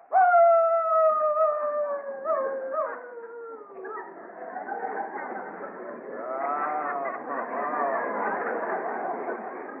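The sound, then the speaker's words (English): A man down on all fours gives a long, loud, wavering wolf-like howl that slides downward in pitch, then breaks into several shorter, warbling howls and yelps, a human voice imitating a wolf on command. “Get down on all fours and howl like a wolf.”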